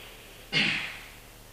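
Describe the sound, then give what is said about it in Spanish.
One loud, deliberately exaggerated inhaling breath demonstrated during a meditation lesson, breathy, bursting in suddenly and fading over about half a second, with no talking around it. “Hago un poquito más de ruido para que entendáis.”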